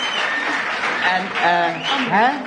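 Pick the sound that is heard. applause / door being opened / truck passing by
applause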